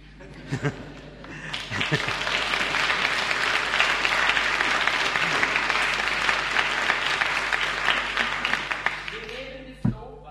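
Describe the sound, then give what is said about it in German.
Sustained applause from an audience, a dense wash of many hands clapping that swells after a couple of seconds, holds steady, then tapers off near the end. “Im Jugendgottesdienst würden wir jetzt klatschen.”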